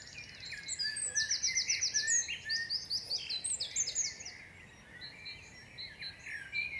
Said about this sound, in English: I recorded some forest sounds. And by mistake, I recorded a dawn chorus without even knowing what that was. I was an urban guy. I was like, damn, that sounds cool.